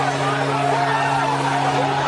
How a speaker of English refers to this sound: That's not the cheering of thousands of Tampa fans or the groans of Dallas supporters. It's the whoops of a couple dozen hockey players and staff. This game, like much of the season, was played in the NHL's quarantine bubble.